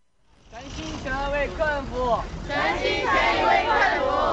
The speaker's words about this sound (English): They may sound like soldiers drilling for a war, but actually they're restaurant staff being made by their managers to stand on the pavement and chant slogans like "Serve the customer with all your heart."